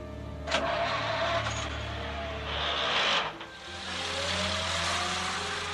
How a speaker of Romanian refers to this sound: În seara zilei de 3 decembrie 1926, după ce Rosalind a fost dusă la culcare, Agatha s-a urcat în mașină și a plecat.